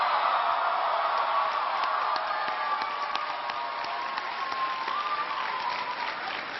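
A crowd applauds steadily for a speaker's introduction at an event hosted by the Rams, dense overlapping claps forming a continuous wash of sound that holds at an even, fairly loud level throughout, easing slightly toward the end.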